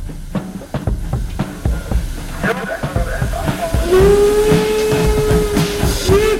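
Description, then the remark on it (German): A steam locomotive chuffs in quick, rhythmic bursts amid hissing steam, then a long, steady whistle sounds and holds for several seconds over the continuing hiss. “Gebimmel und Gepfeife und Geläute gehörte zu einer ordentlichen Bahnfahrt immer dazu.”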